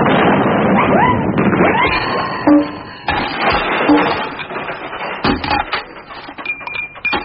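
Christmas crackers being pulled, with several sharp snapping bangs amid rustling, crackling commotion and excited voices, loud, the pops clustering toward the end.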